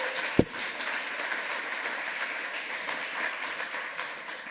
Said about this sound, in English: This was the toughest audio angel job that you will have at Congress. Huge round of applause for that guy behind the board over there.